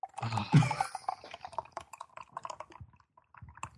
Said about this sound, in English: I can just tell that's one of those thick, like, Guinness-type, like, you're pouring soup into a cup right now. That's, like, this thick, oily kind of... So thick you could chew it.